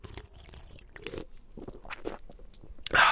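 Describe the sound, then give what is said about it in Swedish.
Mouth sounds of someone taking a gulp of beer: wet sips and swallows, a few soft clicks, then a louder burst of swallowing at the end, with no talking. “Drack du kaffe eller? Jag tog faktiskt en bira.”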